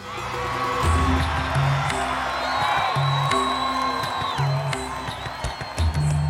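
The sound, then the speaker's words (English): A large crowd cheers and whoops continuously, a dense, sustained roar of excited voices with occasional louder shouts rising above it, alongside a repeating low rhythmic pulse underneath. “The crowd erupted in jubilation.”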